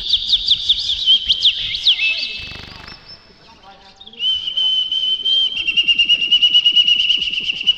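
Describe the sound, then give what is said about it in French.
A dense chorus of many small birds for sale at a pet market chirping and twittering continuously, with rapid high-pitched calls overlapping, a brief lull midway, then a steady rhythmic trill, over faint background murmuring. “Vous avez aujourd'hui divers oiseaux proposés, divers accessoires, poissons, plantes, graines ou cages.”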